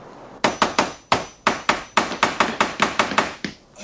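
tool, hammering

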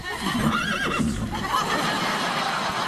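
animal, horse neighing

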